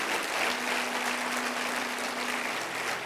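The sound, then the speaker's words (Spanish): A church audience applauds loudly for the Lord, a dense, continuous wash of many hands clapping at once with no break, a faint low hum running underneath. “Si lo crees, dele fuerte aplauso al Señor en este día.”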